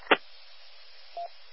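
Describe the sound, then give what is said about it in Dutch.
A brief, single mid-pitched beep sounds over steady, thin radio static on an amateur radio net, the Hunebed Ronde, on the 70 centimetre band, shortly after a sharp click at the start; no one speaks. “Ja, ik hoor piep.”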